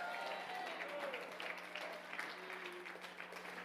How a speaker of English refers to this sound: Come on, if that sounds like you, announce it to the Lord with your hand clap and shout.